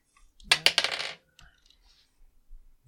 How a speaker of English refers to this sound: It's me, it sounded me picking up a bunch of dice at once, even though there's not much point to that because I only roll one at a time.